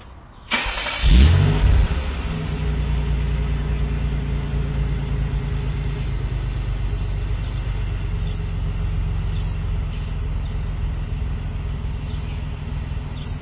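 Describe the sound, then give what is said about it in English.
A car exhaust, recorded from about 10 feet away on the driver's side just off the rear, bursts to life after a brief crank as the car is started, swelling loudly for a moment before settling into a steady, deep rumble, with no one speaking. “All right, so now what I'm going to do is set the microphone about 10 feet away from the car, on the driver's side, just off the rear, so that you can hear what the exhaust sounds like from that distance, okay?”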